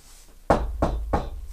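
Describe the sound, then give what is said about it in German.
Three firm knocks on a door, evenly spaced at a steady rhythm, fairly loud, with no voices around them. “Dann klopft der Lehrer ohne der.”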